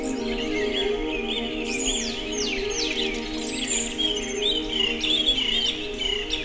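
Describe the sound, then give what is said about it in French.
A dense chorus of many birds sings and chirps at once at sunrise on the mountain slopes of Cagia, overlapping whistles and trills filling the air continuously, with a steady insect-like buzz underneath and no talking. “Les oiseaux, une myriade d'oiseaux chantent ses gousilles.”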